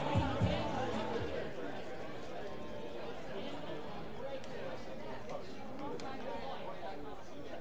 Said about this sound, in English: Crowd still filing in. It's a good-sized crowd.